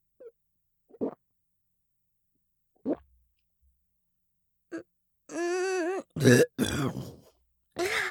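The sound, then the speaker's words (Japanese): A few brief, quiet throat and swallowing noises are followed by a long, close, croaky burp, then some short breathy vocal sounds. “早速座面ゲップが出てしまいましたわ。”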